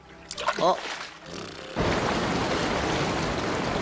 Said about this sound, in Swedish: Ett vattenfall! Ett vattenfall? Men, katten! Ja, vad är det? De säger att det är ett vattenfall! Ett jättestort!